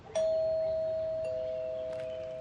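A single electronic doorbell chime rings out as a woman rings the bell of a large modern wood-panelled house, with a sharp onset and a steady bright tone that slowly fades, with no voices around it.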